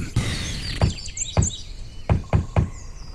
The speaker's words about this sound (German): Nur wer das Klopfzeichen kennt, darf eintreten. Ihr habt genau 5 Sekunden meine Aufmerksamkeit, um das geheime Klopfzeichen korrekt zu klopfen.